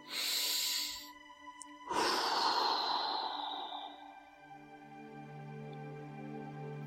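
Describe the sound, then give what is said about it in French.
During a guided breathing exercise, a person takes two slow, airy breaths, a shorter one and then a long, drawn-out exhale that gradually fades, over a soft sustained tonal drone with no one talking. “Vous allez à présent vous concentrer sur votre respiration, inspiration, expiration.”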